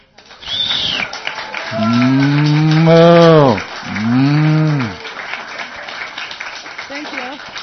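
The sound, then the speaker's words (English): Two long, loud dairy cow moos in a barn follow one another closely, each a deep drawn-out bellow that rises and falls, against a faint backdrop of indistinct background noise. “Every day you milk the cows?”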